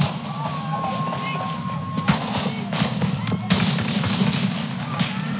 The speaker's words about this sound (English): Toledo police released body cam video as officers arrive at a block party where an unknown number of gunmen were firing shots early Monday morning.